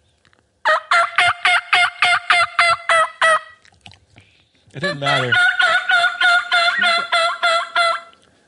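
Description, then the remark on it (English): A handheld turkey reed call sounds two quick, evenly paced runs of loud, raspy hen yelps, separated by a short pause, with a brief spoken word between them; the caller blows towards the back of the reed, then towards the front. “I'll imagine blowing towards the back, and I'll blow towards the front.”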